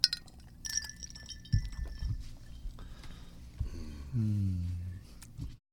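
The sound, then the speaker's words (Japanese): Bright glass clinks ring out near the start as glasses are touched in a toast, a few quick taps with a lingering chime, followed by low thumps and a soft hum as glasses are set down. “うん、 乾杯しますか。 乾杯しましょ う”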